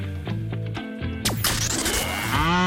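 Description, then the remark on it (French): A cow moo stands out within a short, loud jingle, backed by steady tonal music and a sharp whooshing sweep partway through, with no one talking. “Vous savez ce qu'il vous reste à faire, vous envoyez vache.”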